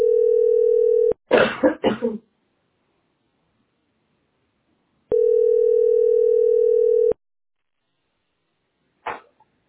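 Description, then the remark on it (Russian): A quick cluster of three or four loud, open coughs made without covering the mouth, with a single brief cough near the end, set between two stretches of a steady telephone dial tone. “Ты же кашляешь, рот не закрываешь.”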